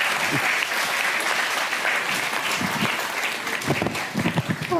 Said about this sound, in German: Das war sehr schön. Danke. Ein Applaus für Axel Petermann. Dankeschön.